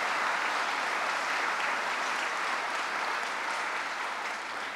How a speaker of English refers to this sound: To the dynamic delegation, assembly members and senators who are here, let's give them a round of applause and thank them.